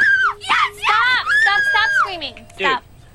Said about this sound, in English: Screaming.